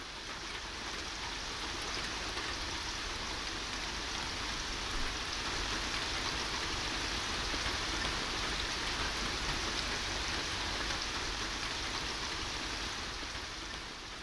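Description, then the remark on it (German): Steady rain splashes onto stone garden steps and into shallow puddles that have collected, dripping from one step to the next, a dense continuous patter of droplets with a bright, hissing texture and no voices. “Hier trifft der Regen auf den Stein auf, da spritzt er in die flachen Pfützen, die sich bereits gesammelt haben.”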